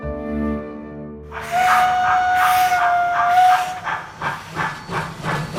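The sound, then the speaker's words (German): A steam locomotive lets out a loud whistle over a rush of hissing steam, then chuffs rhythmically in short bursts as the hiss continues, with no talking. “Mit der Dampflok.”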